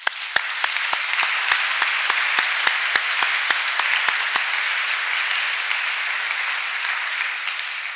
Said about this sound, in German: Ich denke, das ist auch nochmal einen Applaus wert.